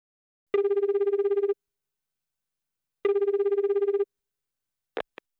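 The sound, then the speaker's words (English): A telephone rings twice, each ring a warbling electronic trill lasting about a second with a pause between, followed by a couple of sharp clicks as an answering machine picks up. “I'm sorry I can't answer the phone right now. Please leave a message.”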